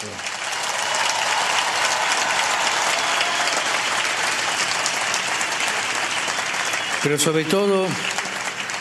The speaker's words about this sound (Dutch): Wij danken allen die u hebben geroepen en allen die hebben meegewerkt om deze bijeenkomst mogelijk te maken. En dat doen we met een luid applaus.